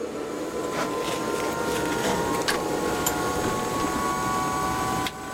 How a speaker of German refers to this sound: Während die Geräusche des Hubschraubers so laut sind, dass ein Gespräch kaum möglich ist, sehen wir beim Blick aus dem Fenster eine Märchenlandschaft.